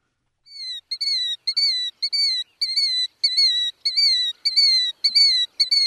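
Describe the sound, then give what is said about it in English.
A killdeer, a large plover, calls over and over, a rapid series of about ten shrill, high-pitched two-part notes with a slight downward slur, loud and clear with no talking. “This month, we're talking about the killdeer, correct?”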